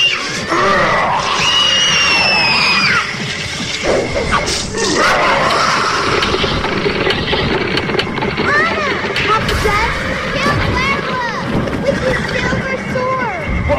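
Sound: horses neighing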